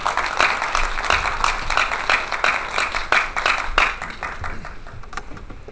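An audience bursts into sustained applause, a dense patter of many hands clapping that stays steady for several seconds, then thins and softens into lighter scattered claps toward the end.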